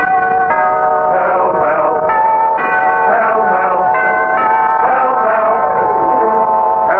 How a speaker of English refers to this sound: bell for Pall Mall.